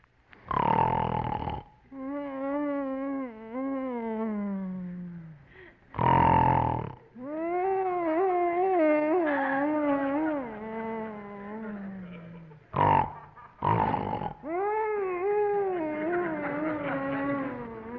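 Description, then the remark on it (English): Loud snoring in a radio comedy scene from The Bickersons, alternating harsh, noisy snorts with long, wavering whiny groans and grunts, repeating in a slow, irregular rhythm of four or five cycles. It sounds like a human voice imitating snoring. “Whining and giggling and grunting and snorting is driving me crazy.”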